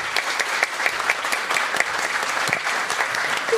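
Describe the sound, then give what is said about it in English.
A crowd applauds steadily, dense overlapping claps forming a continuous, fairly loud wash of clapping with no speech, sustained evenly for a few seconds, in applause for Australia's master bell maker. “You should all give him a round of applause.”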